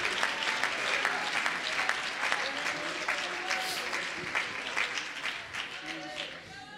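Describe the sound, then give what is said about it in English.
An audience claps steadily and loudly for several seconds, a dense wash of many hands with scattered sharper claps, while voices call out and sing along underneath. “Oh, could you clap your hands and lift your voice?”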